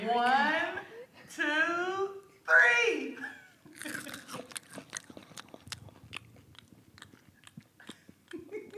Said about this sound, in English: One, two, three. Tastes like crunchy crickets. It does. Lots of delicious flavor.